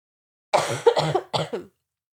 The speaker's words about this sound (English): So let me just cough here for a second.